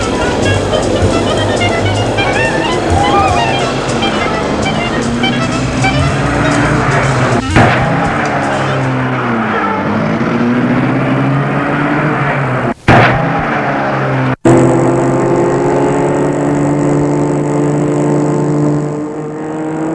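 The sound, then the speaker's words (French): A car, driven by a young man with a bicycle on its roof, drives along with a steady engine drone and road rumble, its pitch rising and falling as it speeds up and slows, broken by a few brief thumps. “Il trouve un jeune homme pour les ramener en voiture.”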